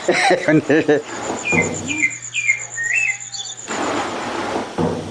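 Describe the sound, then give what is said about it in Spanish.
A series of short, high-pitched squeals from the ungreased rollers of a sugarcane mill called a matacuatro, as they grip the cane, repeats over a thin steady whine, moderately loud, with a voice heard briefly before and after. “Si uno no le unta de esa grasa, agarran con un chirri y apenas agarran que se raca, raca, raca, raca, y se oyen de lejos.”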